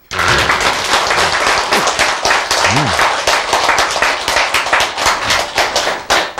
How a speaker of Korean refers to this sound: 박수.